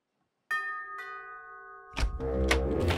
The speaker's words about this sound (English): And this is an Easter video for you right now in this culture to have a little fun of what it looked like when people rang the doorbell.